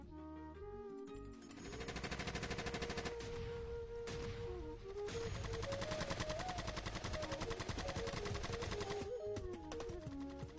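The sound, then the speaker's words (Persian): Sustained, rapid gunfire from many soldiers' rifles crackles loudly and densely for several seconds after a brief lead-in, as soldiers on orders fire on a crowd gathered in a garden in a barrage lasting ten minutes, with a droning tone running beneath and no voices. “فایر گلوله از هر طرف باریدن گرفت.”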